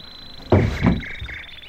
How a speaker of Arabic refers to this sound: نعم قومي، قومي وافتح الباب.